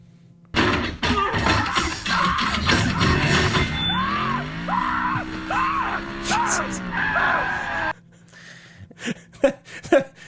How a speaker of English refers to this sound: Bumblebee, there's a part where Sam gets thrown from the car. Bumblebee transforms and grabs him and then saves him. And Sam has a hilarious scream.